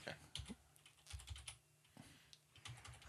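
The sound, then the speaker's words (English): Rapid, irregular clatter of keys being typed on a computer keyboard, fairly quiet, with bursts of several keystrokes and short pauses between them. “Have you ever used a keyboard before?”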